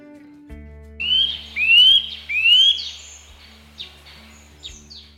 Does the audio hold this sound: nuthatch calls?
yes